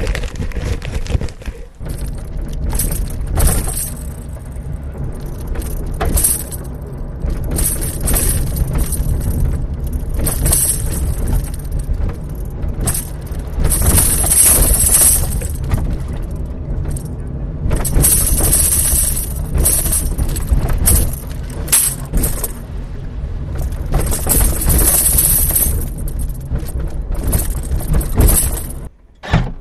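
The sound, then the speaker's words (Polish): Metallic rattling and jangling from a tambourine used as a road-measuring instrument in a car's trunk erupts in repeated bursts whenever the moving car drives over potholes, above a steady rumble of road and engine noise. No one speaks. “jest tak strymowane, tak wysterowane i tak obliczone, że nie odzywa się na progach oraz na torach tramwajowych, ale odzywa się za każdym razem, kiedy samochód najedzie na dziurę.”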